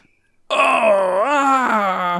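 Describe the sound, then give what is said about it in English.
A character in a story screams: a single loud, drawn-out scream from one voice lasting nearly two seconds, its pitch wavering, dipping midway and climbing again like an anguished wail, with no talking around it. “At this point, you hear Rouge start screaming.”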